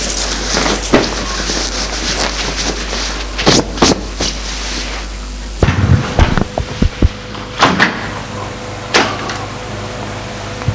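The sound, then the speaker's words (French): A door is opened by a man: a handle clicks and rattles, the door knocks as it swings, and the background hum shifts as it opens, followed by a few sharp knocks. No one speaks. “Il entend que l'homme a ouvert la porte.”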